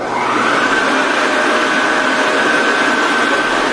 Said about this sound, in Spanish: Este es el ventilador de la tractora.